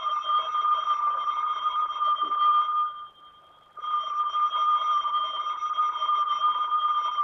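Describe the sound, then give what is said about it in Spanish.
An electric bell giving the call to go on stage rings steadily with a shrill, buzzing tone, pauses briefly for under a second, then resumes ringing continuously. No voices are heard. “Maldito timbre. Es el aviso de salida a escena.”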